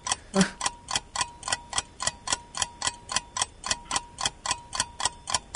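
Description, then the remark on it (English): A game timer in a radio show quiz ticks steadily, about four sharp, bright clicks per second, at an even, moderate volume with no voices over it. “There's the timer.”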